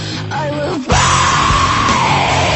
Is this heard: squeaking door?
no